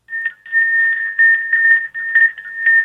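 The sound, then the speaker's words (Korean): A wind chime (wind bell) rings steadily over a phone call, its bright, high metallic tone sustained throughout, with repeated clusters of clinking strikes every half second or so. Fairly loud, with no voices. “종소리요? 아니, 풍경소리 안 들렸습니까?”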